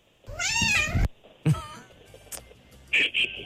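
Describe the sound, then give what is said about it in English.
A cat lets out a long, wavering, drawn-out meow, then a shorter yowl and a few brief chirpy calls, with no one talking. “It's a Def Cat.”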